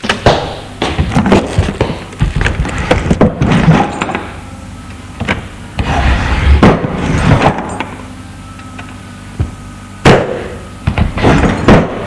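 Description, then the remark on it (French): Desk drawers are pulled open and shut several times, with sliding wooden scrapes, rattling contents and a few sharp thuds, loud and irregular with brief pauses between them; no one speaks. “Arrivé à son bureau, il ouvre les tiroirs de son bureau.”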